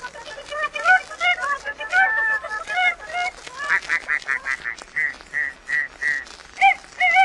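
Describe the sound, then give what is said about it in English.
A voice imitates chickens and roosters, first with a jumble of squawking clucks, then a steady run of short, evenly spaced cackling calls, fairly loud. “And the chickens and the roosters, they go.”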